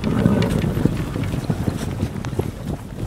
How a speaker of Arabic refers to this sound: تبا، إن السفينة تتحرك.